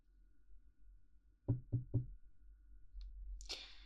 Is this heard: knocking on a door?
yes